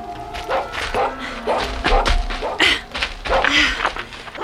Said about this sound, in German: Nun stand er an einer Stelle und bellte.